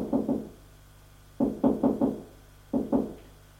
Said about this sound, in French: Elle monte les escaliers en pierre, en colimaçon, jusqu'au 2e étage. Arrivée au 2e étage, elle frappe à la porte de droite.